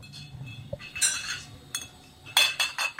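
Glass bottles from Pennsylvania clink repeatedly on the whirring, circling steel and glass conveyor belt of a Borelli bottling machine at a distillery, bright ringing knocks arriving in irregular bursts over a low mechanical hum.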